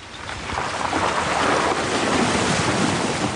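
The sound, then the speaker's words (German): An off-road vehicle pushes through the water of Spring Creek, a tributary of the Condamine River in the Darling Downs, on the way up to Queen Mary Falls: a steady loud rush and churn of splashing water with engine rumble underneath, continuous for the whole stretch with no voices. “Der Geländewagen von Chris Hayward kämpft sich durch das Wasser der Spring Creek”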